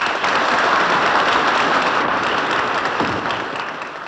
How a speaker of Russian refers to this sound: Зал взволнованно аплодирует этой замечательной русской женщине, ветерану войны и колхозных полей.